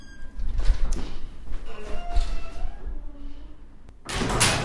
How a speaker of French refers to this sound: Oh, vous reconnaissez pas ce bruit de porte là? Il est connu ce bruit de porte. Ça c'est le deuxième bruit de porte et là ça résonne. Bon, mais si, je vous dis, on est à la médiathèque à Villefranche-de-Rouergue.